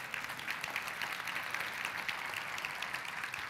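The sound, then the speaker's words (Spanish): A church audience applauds in praise of Jesus, a steady dense wash of many hands clapping that stays full and even for several seconds with no voices over it. “Le podemos dar un aplauso a Él.”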